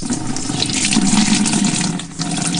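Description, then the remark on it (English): Water runs from a household tap in Port Moresby, Papua New Guinea, in a weak, low-pressure flow, a steady splashing trickle with a brief falter near the end. No one speaks. “This is a sound from many households in Port Moresby as they try to come to terms with a low-pressure water or no water at all.”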